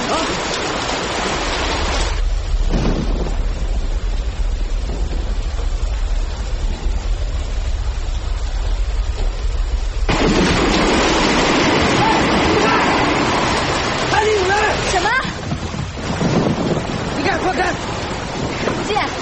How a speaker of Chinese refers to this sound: 台风正猛，海上风浪一浪高过一浪，风声、水声、雷声交织在一起，十分骇人。